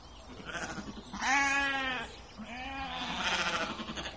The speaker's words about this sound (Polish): właściciel owieczek, które tutaj w arkadyjskim ogrodzie zamieszkały, idą do nas. Najbardziej aktywne są bardzo wcześnie rano, późno wieczorem, wtedy się pasą. W ciągu dnia jak zgłodnieją albo gdzieś cień jest, niechętnie przebywają na słońcu.